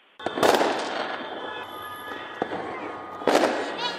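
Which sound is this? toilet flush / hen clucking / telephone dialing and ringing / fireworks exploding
fireworks exploding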